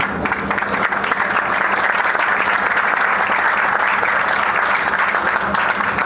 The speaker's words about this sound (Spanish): Muy bien, un aplauso entonces para los dos premios que se llevan Ruta Alquímica a los 10 de esta tarde que nos quedan. Nos despedimos con un aplauso, cambiamos ya de rubro.